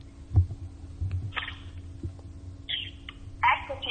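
An outgoing phone call rings with short, repeated tone bursts over a steady low hum and soft thumping, moderately loud, with no one speaking.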